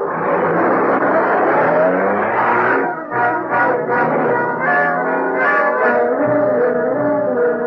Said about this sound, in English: There's a car.